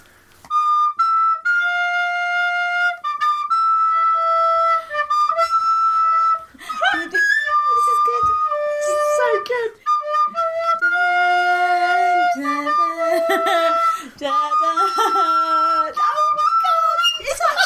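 A very cheap recorder plays a repetitive rave-anthem melody, loud sustained shrill notes with a few wobbly, squeaky passages partway through.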